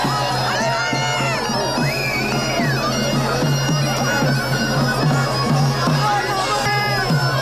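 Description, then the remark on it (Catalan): At the Manacor festival in the evening, a crowd roars with overlapping shouts and cries and scattered clapping as the troupe of devils comes out of the Escola Municipal de Música to dance for the first time, while a steady low drone runs underneath throughout. “És el moment en què el poble esclafeix amb mambaietes i crits quan la colla de dimonis surt de l'Escola Municipal de Música i els dimonis i també Sant Antoni es dirigeixen cap a la plaça del Mercat per ballar per primera vegada.”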